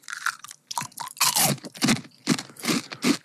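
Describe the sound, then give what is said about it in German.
Loud, crisp crunching of packaged fried chicken skin, a series of sharp brittle bites and chews in irregular bursts with no talking. “Das ist aber knusprig.”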